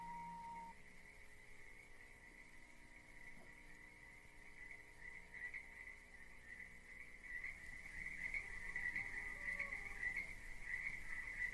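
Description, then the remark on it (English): A steady, high-pitched trill of crickets chirping in the grass of a field fills the background, growing slightly denser and louder toward the end, with no voices present. “You can hear cows in the distance and crickets in the grass.”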